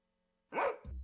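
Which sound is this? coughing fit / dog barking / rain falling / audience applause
dog barking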